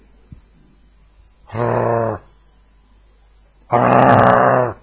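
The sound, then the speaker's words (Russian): A person crouching in front of a dog imitates a dog with two rough, growling bark sounds, each lasting about half a second to a second, separated by a pause; loud, with no other talk. “Хорошая собака, хорошая. Гав! Очень хорошая. Гав! Улыбаюсь. Гав, гав!”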